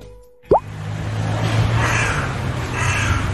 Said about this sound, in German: Oh nee, nicht ein Raben jetzt. Und was sagt der Profi? Eine Nebelkrähe. Sehr gut. Und ist es ein Hybrid oder nicht? Das wäre jetzt ein Hybrid.